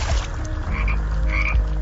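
A frog croaks steadily and fairly loudly for a couple of seconds, a rough, throaty chorus with a few higher chirps mixed in and no one speaking.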